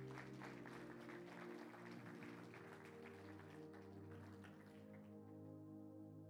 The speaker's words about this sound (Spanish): Dale fuerte aplauso al Señor.